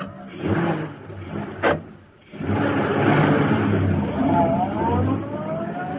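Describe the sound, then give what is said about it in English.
A car door thumps shut, then an engine roars to life and revs steadily as Bleeker's car pulls away into the street and turns toward Schaefer's parking lot, its pitch rising and falling with the acceleration. “As Bleeker's car swung into the street and turned toward Schaefer's parking lot, a huge sleek black car started along behind them.”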